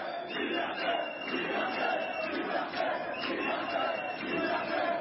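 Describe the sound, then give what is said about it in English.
Protesters who entered a shopping mall despite a vaccine passport requirement for shopping shout "Liberté" together in a loud, continuous roar. Their voices rise and fall in a steady chanting rhythm of repeated pulses throughout. “Macron made it illegal to go shopping without a vaccine passport, so protesters entered the mall anyway, shouting Liberté.”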